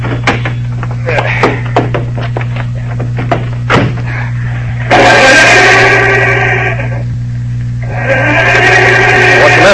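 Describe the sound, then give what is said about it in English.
An old car's engine cranks without catching: a few sharp clicks over a steady low hum, then two long, loud grinding bursts of the starter separated by a short pause. “She doesn't seem to be able to start.”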